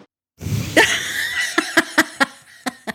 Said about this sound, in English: Cough.